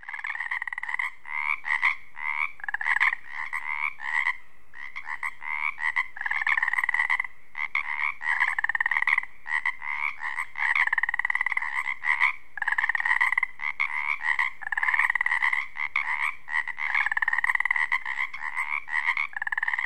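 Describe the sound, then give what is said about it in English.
A dense chorus of male Pacific tree frogs croaking continuously in a wetland near Ozette Lake on the Olympic Peninsula, Washington State, at dusk in springtime mating season, many overlapping ribbeting calls in quick pulses, loud, with no voices. “As the daylight fades over this wetland, the Pacific tree frog comes to life. They're also known as Pacific chorus frogs.”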